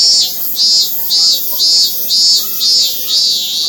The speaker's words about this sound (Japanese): でもこんなに暑い時間帯に鳴いているメスのセミなんかいないですよ。どうやら断末魔の叫びだったようです。